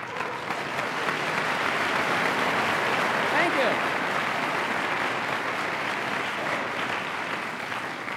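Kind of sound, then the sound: crowd, audience round of applause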